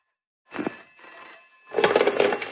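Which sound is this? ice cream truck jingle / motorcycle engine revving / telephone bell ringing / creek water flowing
telephone bell ringing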